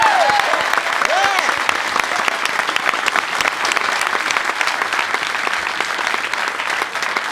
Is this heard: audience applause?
yes